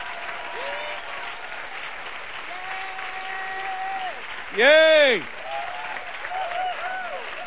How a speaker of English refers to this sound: Give the Lord a big clap. Einen großen Applaus dem Herrn.